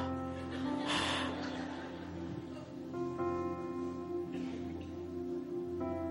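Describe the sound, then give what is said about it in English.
A voice imitates heavy breathing into a phone: a few loud, breathy gasps spaced a few seconds apart over a steady low hum, slightly muffled. “How many remember when you could stay on the phone all night? Just breathing.”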